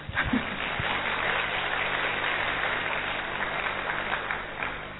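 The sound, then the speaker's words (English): A crowd claps steadily for several seconds, a dense, even patter of many hands with no voices over it, holding at a constant loudness before easing slightly at the end, as people welcome each other at a gathering with song and dance. “Everyone happy with song and dance? Yeah, good. Clap.”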